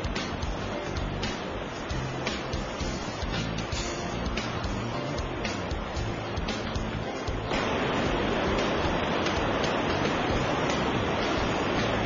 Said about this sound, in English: Look at this clear blue river. There are lots of fish in it. That's Nanshushi. Taipei's drinking water comes from it.